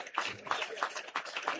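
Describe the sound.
Steady, rhythmic hand clapping, about three claps a second, sharp and fairly loud, with voices mixed in underneath.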